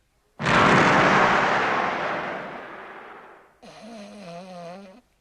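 A single loud mortar cannon blast from the first gun erupts with a sharp attack and a long, rumbling decay lasting about three seconds, then gives way to a wavering, snore-like tonal drone. No one speaks.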